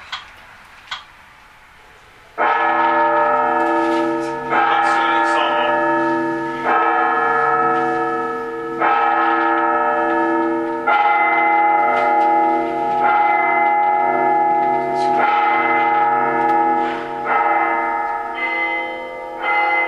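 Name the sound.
small church bells ringing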